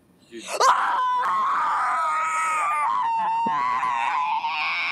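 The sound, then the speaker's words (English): A single voice in a voice message lets out a loud, drawn-out scream that starts abruptly and holds for several seconds, strained and wavering in pitch, harsh with no talking around it. “Please scream more.”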